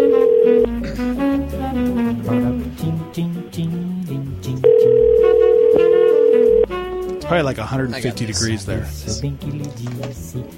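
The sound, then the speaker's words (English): A steady electronic ringback tone from an outgoing phone call to a mother sounds twice, one brief burst and then a longer two-second ring, fairly loud, with a person talking before and after the rings. “Oh my gosh, mom, answer the phone.”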